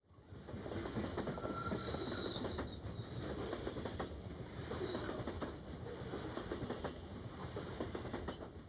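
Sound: train picking up speed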